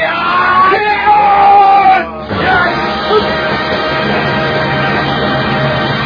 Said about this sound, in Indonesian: melompat sambil berteriak menyergap.